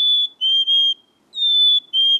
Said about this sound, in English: Here are the candidates. The black-capped chickadee.